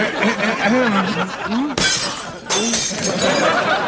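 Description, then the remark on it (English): Glass gifts meant for Sabrina shatter loudly in two back-to-back crashes that spray bright, tinkling debris, broken on purpose by Salem, coming right after a voice snickers and chuckles. “You break our gifts with the childish hope that we will then buy Sabrina a Mr. Microphone.”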